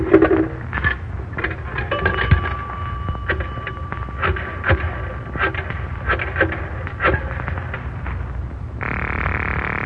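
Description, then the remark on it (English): A coin payphone, used with a nickel and with no booth, being dialed: a run of sharp mechanical clicks and clacks, a thin tone underneath, then a steady buzzing line tone at the end. “The phone's right there. No booth here.”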